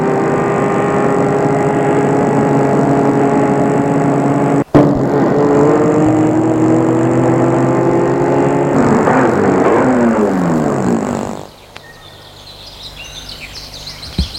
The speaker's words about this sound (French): Après une demi-heure de route en pleine campagne, la voiture s'est arrêtée devant une ferme abandonnée.